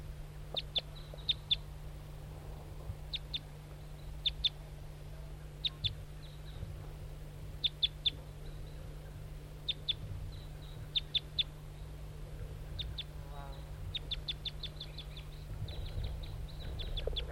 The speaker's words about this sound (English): Start recording the wild bird. It's a lone male, all red.